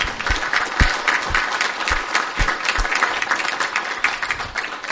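A crowd claps steadily, many hands producing a dense, bright patter of applause that holds at an even, fairly loud level throughout, with no voices rising above it.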